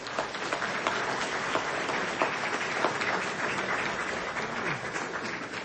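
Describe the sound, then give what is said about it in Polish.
Steady audience applause for Professor Jacek Bartyzel on his promotion to full professor fills the whole stretch, a dense crackle of many hands clapping at an even, fairly loud level with no voices on top. “Oklaski dla niego.”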